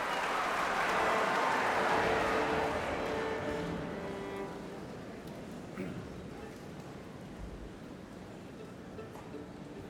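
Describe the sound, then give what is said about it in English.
A large concert audience applauds and cheers loudly as Joshua Bell is recalled for an encore, a dense wash of clapping that swells in the first few seconds and then gradually fades to a softer, scattered patter. “You can just hear the audience roaring like a crowd at Fenway Park at Yankee Stadium.”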